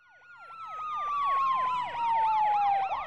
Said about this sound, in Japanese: ある朝、主人公はサイレンの音に目を覚まし、窓から外を覗きました。マンションの前にパトカーと救急車が止まっていました。